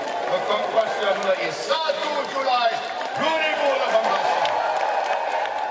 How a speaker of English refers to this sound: That was our Prime Minister Najib Razak. I'm guessing, I don't know about you, but I'm guessing that crowd was made up of civil servants. Yeah, you know, quite the loud cheer there